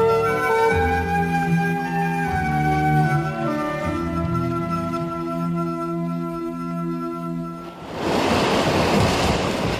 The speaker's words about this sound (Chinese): 燃起了暴风，甚至船被波浪掩盖。